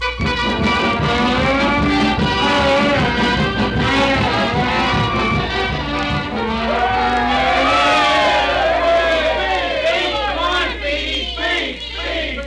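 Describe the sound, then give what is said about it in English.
A large crowd at a railroad station, the whole town turned out to see Speedy off, cheers and shouts continuously, a dense roar of many voices with whoops and high excited cries rising over a steady low rumble throughout. “We now take you to the railroad station where the whole town has turned out to see Speedy off.”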